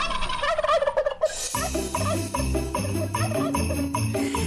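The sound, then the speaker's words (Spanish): A turkey gobbles in a quick, rattling burst of warbling calls lasting about a second, used as a radio station's "turkey signal" cue, then a loud, upbeat music jingle with steady beats takes over. “Ya suena la pavo señal en Cabo Mil Radio desde el 8 de diciembre”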